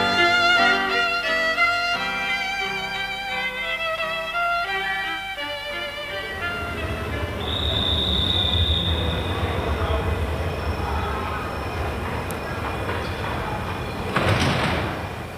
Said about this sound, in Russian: Сколько людей сегодня на вокзале? Не проберешься просто. О, смотри, вон и наш поезд стоит.